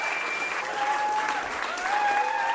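crowd, concert audience applause

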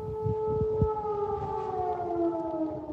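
signal or alarm, air raid sirens wailing

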